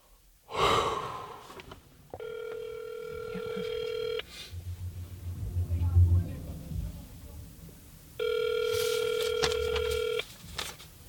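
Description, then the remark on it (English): A phone call placed from a car on a residential block rings out: two steady, buzzing ring tones about two seconds each, separated by a pause with a low rumble, preceded by a sharp breath near the start. “Back in the car on a random residential block, I take out my phone, punch in the number for the boy in the photo.”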